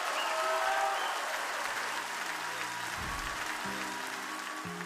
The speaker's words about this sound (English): Clap your hands and shout just a minute.